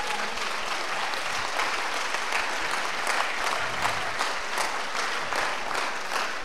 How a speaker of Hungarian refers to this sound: Úgy, egy nagy tapsot kérek neki.